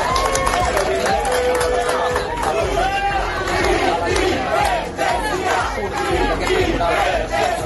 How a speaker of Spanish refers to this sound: Así ha sido la salida de Puigdemont de ese tribunal entre aplausos y gritos de independencia de quienes le esperaban.